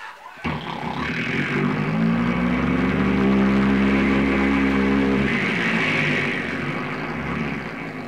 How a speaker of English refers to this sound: The engine starts, the plane taxis out to the end of the runway. They run up the engine, check it out, make sure it works.